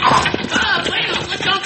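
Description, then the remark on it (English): Stagecoach horses' hooves clip-clop in a quick, uneven trot, loud, steady beats over a rough, noisy wash of rattling and rumble, with no voices. “Stage horses are tired. We catch up to them.”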